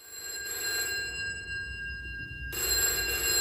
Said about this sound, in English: To scratch the itch, I ended up ringing the phone box from my mobile. And there it was.